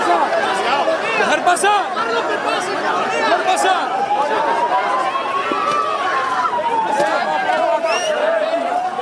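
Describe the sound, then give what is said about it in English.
A loud, dense crowd of angry protesters shouts and clamours continuously, many voices overlapping, with a wavering high tone drifting through the uproar; in Paiporta, Valencia, Spain, confronting the Spanish king and queen after deadly flash floods, some shouting 'murderer' and throwing objects and mud. “Angry crowds have confronted the Spanish King in Valencia, where flash floods have killed at least 217 people.”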